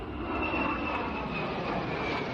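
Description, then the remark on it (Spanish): A steady, loud roar of military aircraft engines passing overhead, 58 planes and 26 helicopters rehearsing their flight over the capital along the Castellana for the Fiesta Nacional parade; a broad rumbling drone with a faint high whine, continuous throughout with no voices. “y por aire 58 aviones y 26 helicópteros que ya están practicando”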